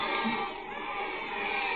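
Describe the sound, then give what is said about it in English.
A dense, steady wash of crowd noise, many voices blurring into a constant murmur and clamor with no single speaker standing out, holding at an even, moderate level throughout. “But through the din, the clamor, you hear a voice.”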